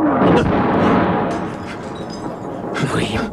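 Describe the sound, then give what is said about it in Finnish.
A loud artillery shell explodes close by, leaving a heavy, sustained low rumble that fades slightly before a sharp, bright burst of clatter near the end. “Perhana lamppu meni, viimeinen lasi. No, tulipa lähelle.”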